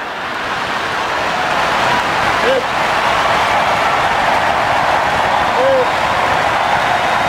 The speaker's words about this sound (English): It's just that one sentence, this weird obsession with crowd sizes, and then the giant applause from this room of course